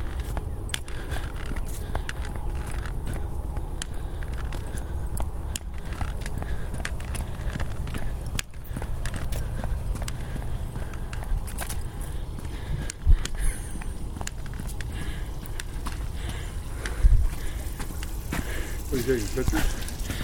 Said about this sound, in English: I'm just recording because I've got a friend that likes to hear the horses, so I thought I'd see if they were out.